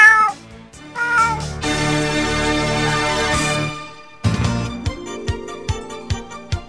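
cat meowing

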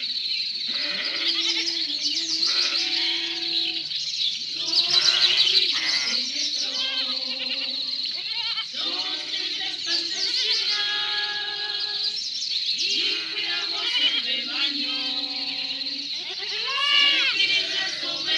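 sheep bleating

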